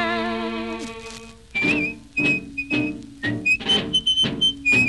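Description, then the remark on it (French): A clear whistled melody rides over a steady rhythmic backing with regular percussive hits, following a brief opening of sustained, wavering instrumental tones. No one speaks. “Le soir à l'heure de l'apéro, il s'amenait dans notre bistrot, toujours tout seul, sans un copain, en sifflotant un drôle de refrain.”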